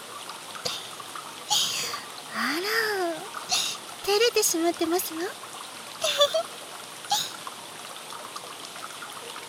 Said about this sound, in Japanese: 雨の中の露天風呂ですが、これはこれで風情があると思いませんか。私はとても好きです。